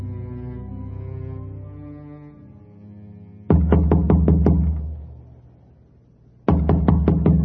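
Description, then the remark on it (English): A low, droning horn-like tone fades out, then a bishop's door is knocked on in two loud bursts of quick, evenly spaced raps, about six knocks each, with a pause between. “Let me try my luck over here by knocking at the bishop's door, as the kind sister told me a little while ago.”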